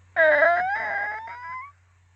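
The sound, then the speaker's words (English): A voice imitates the attic door in a bedroom opening on its own in the middle of the night: one drawn-out, nasal, whining squeak lasting about a second and a half, wavering then slowly rising in pitch, with a steady low hum underneath. “The night after I watched Black Christmas, I have an attic door in my room. And it opened on its own in the middle of the night and made this sound.”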